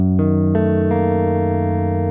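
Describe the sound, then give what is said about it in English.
A sustained, loud dissonant chord with a sharp ninth built up note by note, with three entries stacking on a held low root until two upper notes clash a half step apart and buzz against each other. “Yeah, there's a dissonant buzz to it that I love.”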